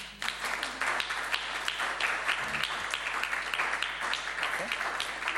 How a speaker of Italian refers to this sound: Facciamo così. Chiederei un applauso.